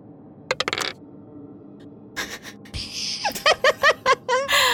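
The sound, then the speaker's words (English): Dice rolled for an intelligence saving throw in a tabletop role-playing game clatter on a hard tabletop, landing on a 3: a quick burst of sharp clicks, a pause, then a longer rattling run of bouncing clacks that speed up as they settle. No one speaks. “I have a good plus on intelligence, but I rolled a 3.”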